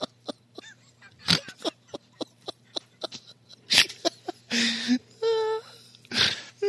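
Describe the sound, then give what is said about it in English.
Agitated hens in a hen house in southern Sweden squawk and cluck in rapid, sharp bursts, with a few longer strained cries in the middle; the birds are fairly loud, with no talking. “The other hens are mostly just surprised.”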